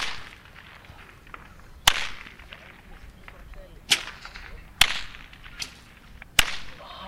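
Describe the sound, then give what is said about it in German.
Four loud, sharp whip cracks split the air at irregular intervals, each a sudden bright snap that fades quickly over a low, steady background hiss: traditional whip crackers (Geiselklopfer) at the Samichlaus procession in Rotenburg. “Und da sind eben noch Geiselklopfer und der Samichlaus dabei.”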